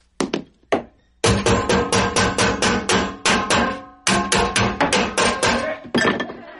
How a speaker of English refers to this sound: Hammer.